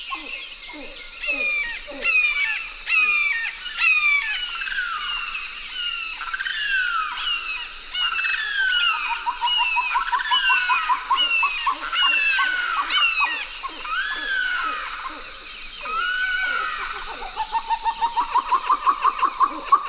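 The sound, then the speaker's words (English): Marsh birds call continuously at the Wasissa River's edge, a riverine marsh in Florida: chattering grebes, a limpkin and a red-shouldered hawk trade loud, harsh, repeated squawks and rapid nasal chatters that overlap throughout, ending in a quick, even run of notes. “Lang Elliott and Ted Mack went to the Wasissa River's edge and recorded chattering grebes, a limpkin, and the harsh call of a red-shouldered paw.”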